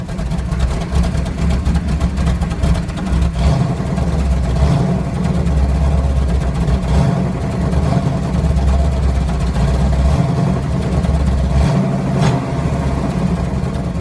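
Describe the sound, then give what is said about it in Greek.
A powerful car engine rumbles with a deep, throaty tone throughout, its pitch rising and falling slightly as it revs. Loud, with no voices. “Λοιπόν, να σας γυρίσω πίσω τέλη δεκαετίας 80, στα φοιτητικά μου χρόνια, όπου είχα ένα αυτοκίνητο παρεμφερές.”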